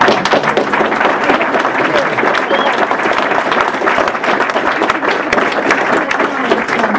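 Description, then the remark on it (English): Sustained applause from a sizable audience, dense overlapping clapping that stays loud and steady throughout, with a faint murmur of voices mixed in. “So let's have a round of applause, please.”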